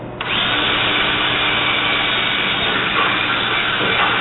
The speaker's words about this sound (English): There's going to be about a half inch piece of shim right at the base before the fingers start, and that's where you want the rivets to go. Drill a hole.